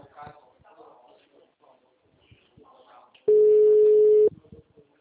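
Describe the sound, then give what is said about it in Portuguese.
A steady electronic telephone busy tone sounds for about a second, loud, after a stretch of muffled conversation heard over a phone line. “O telefone encontra-se ocupado. Por favor, tente mais tarde.”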